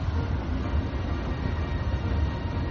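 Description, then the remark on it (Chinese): A train rumbles past a building on an elevated CSX above-grade rail line in a steady, continuous roar, heavy in low-end rumble with a broad mechanical hiss over it, fairly loud, with no voices. “这时候我们就得控制火车带来的噪音，并且向游客介绍火车曾经是怎样穿过这栋大楼的。”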